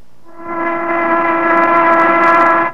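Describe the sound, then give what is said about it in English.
A factory whistle blows noon in one sustained, steady blast lasting a couple of seconds, a loud low harmonic-rich tone that holds at even pitch before cutting off abruptly. “Or take that factory whistle which blew noon a while back.”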